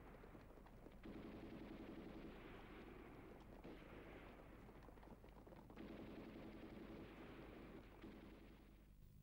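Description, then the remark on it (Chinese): Continuous rumbling gunfire and booming blasts fill the scene, dense and loud, with bursts swelling around the middle and later on, like a battle sound effect with no one speaking; gunfire at Huaqing Pool in Lintong at four in the morning, as the mutiny against Chiang Kai-shek began. “第二天凌晨四点，临潼华清池响起了枪声，一场震惊中外的大事变终于逼近蒋介石的临时行辕。”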